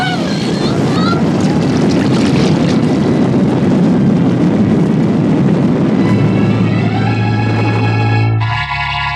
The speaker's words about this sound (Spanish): A bordo del camuflado barco Asaula, que se dirige con rumbo desconocido, el rumor de la tormenta es apenas perceptible en el interior del lujoso camarote, ocupado por el diabólico doctor Kiro.